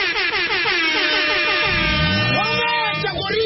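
air horn sound effect

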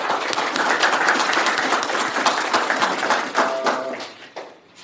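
audience clapping

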